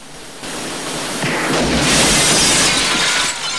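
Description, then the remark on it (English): A loud crash as a robber smashes through a glass shop window, with a dense, noisy burst of shattering glass lasting a few seconds and no voices. “The second robber crashes through a shop window.”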